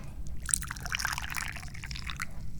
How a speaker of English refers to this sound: I'm the chairman of the Dubious Goals Committee, and I'm just sitting here thinking about pouring some tea.